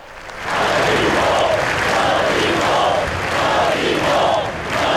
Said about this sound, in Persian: مردم در بارسلون فریاد می زدند که ما نمی ترسیم. این پس از یک روز در اسپانیا، این جماعت بعد از یک روز پس از حملات در اسپانیا دور هم جمع شده بودند در این میدان در بارسلونا.